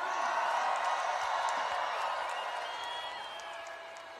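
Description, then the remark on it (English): A large crowd cheers and claps loudly, a dense wash of applause and shouts filling the space, gradually easing off a little toward the end. “Make some noise for”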